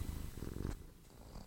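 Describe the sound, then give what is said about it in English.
A cat named Gwyneth purrs, a low, steady rumble pulsing in a soft rhythm, slightly fuller at first and then settling quieter, with no one speaking. “with his cute little cat, Gwyneth.”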